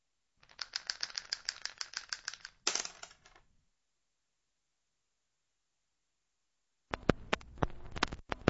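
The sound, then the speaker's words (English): Dice rattle rapidly in a steady shake for about three seconds, then silence, followed by a burst of sharp, hard clacks as they tumble across a surface, in Radio No Man's Land, a live radio performance of 27 May 2009 in Studio 3 of the ORF Funkhaus in Vienna. “Roll the dice.”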